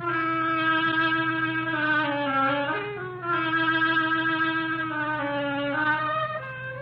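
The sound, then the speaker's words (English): A solo oboe plays the duck's theme in a musical tale told by instruments, a slow, nasal melody in a mid-low register, notes sliding gently between pitches, with a steady low hum beneath. No voices are heard. “The duck by an oboe.”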